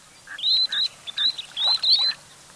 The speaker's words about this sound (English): The least sandpipers you're hearing travel to and from the Arctic year after year.